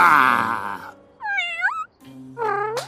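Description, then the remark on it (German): Kittens meow: a rough, strained cry like a tiny attempted roar, then two short, high, wavering meows after brief pauses, with no talking. “Ach, ihr Kätzchen braucht Unterricht von einem echten Dinosaurier.”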